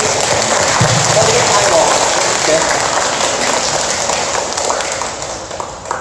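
A crowd claps steadily, a dense, even patter of many hands that holds loud for several seconds and then tapers off slightly toward the end. The applause at a sermon is for a man who arranged food and care for the speaker's family over three days.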